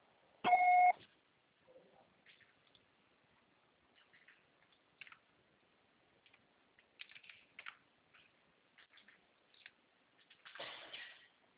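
A single loud, short voicemail beep sounds at the start, the signal to leave a message after a Portuguese phone greeting, followed by quiet scattered clicks, taps and rustling with no talking.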